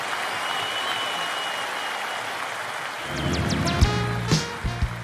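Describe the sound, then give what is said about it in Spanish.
A steady, dense wash of audience applause for maestro Diego Rapoport on the show Sesionistas fills the whole clip, swelling slightly in the last two seconds with a few sharp whistles and low thumps mixed into the clapping. “aplauso para el maestro Diego Rapoport.”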